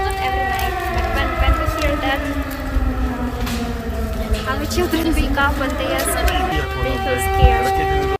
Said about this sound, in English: However, people in several parts of Ukraine are trying to learn to live with air raid sirens, including this mother and her children.